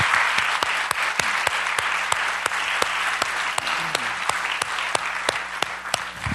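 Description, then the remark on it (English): An audience applauds steadily for several seconds for people who shared, a dense wash of clapping with sharp, evenly spaced claps standing out on top. There are no voices, and the applause holds at a fairly even level throughout. “Can you guys applaud them for their efforts?”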